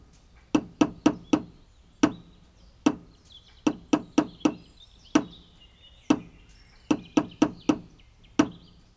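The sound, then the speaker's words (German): Sharp wooden knocks of hammering as two people build a tree house fall in a steady rhythm, grouped in quick bursts of three or four strikes with short pauses, while faint birdsong chirps in the background. “Ist euch aufgefallen, dass die beiden Baumhausbauer am Ende so einen ganz bestimmten Rhythmus hatten beim Sägen und beim Hämmern?”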